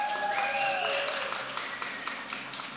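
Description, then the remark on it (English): A group claps together in a dense, steady burst of applause, with a few high whoops and cheers ringing out at the start before the clapping carries on alone. “What about another like clap or jump or?”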